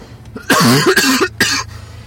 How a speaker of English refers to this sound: I can't explain coughing either. What? I can't explain coughing either. I can. My mouth's dry.